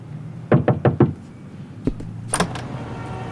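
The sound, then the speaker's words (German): Four quick, firm knocks on a door, followed by a dull thud and a sharp latch click as the door is opened, with no talking. “Als mir die Tür geöffnet wurde, musste ich feststellen, dass die einen der Scheintoten vergessen hatten.”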